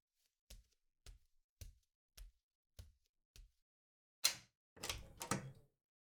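Six steady knocks on the door of a house, evenly spaced, followed by a sharp click and a louder rattling clatter as the door is opened. No one speaks.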